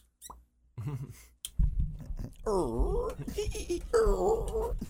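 Rubbery, squeaky plastic bottles being squeezed, producing loud warbling squeals in two long bursts after a few short pops, with no talking.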